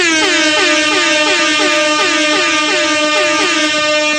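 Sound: air horn blasts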